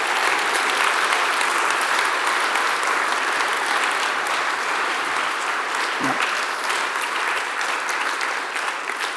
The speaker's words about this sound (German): Herzlichen Applaus für alle vier.